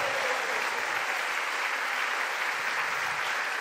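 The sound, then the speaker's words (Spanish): An audience applauds the King of Glory steadily, a dense, even wash of many hands clapping at a constant loudness with no voices standing out. “Dele un aplauso al Rey de Gloria.”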